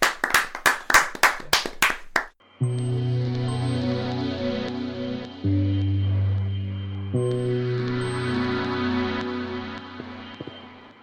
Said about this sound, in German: Ein großer Applaus einmal für die Fliegen, bitte. Fliegen!